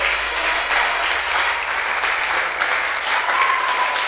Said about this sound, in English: Oh, come on. Is somebody clapping? Is somebody clapping? Is somebody clapping to God's glory?